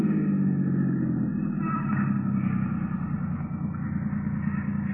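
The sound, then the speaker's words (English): A car engine idles steadily throughout, a fairly loud low rumble with an even, unbroken drone and no voices over it, the car pulled over with the motor kept running. “All right, now pull up over there. Keep the motor running.”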